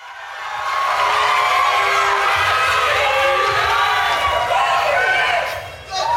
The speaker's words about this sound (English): Crowd goes wild.